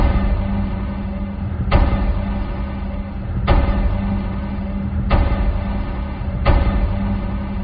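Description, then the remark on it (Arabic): Recorded radio waves from a pulsar, a rotating neutron star, rendered as sound: four sharp, evenly spaced knocks like knocking on a wooden or iron door, roughly every one and a half seconds, over a steady low rumbling hiss. No voices. “صوت هذه الطرقات لا يمكن أن يوصف إلا بالطارق على باب من الخشب أو على باب من الحديد.”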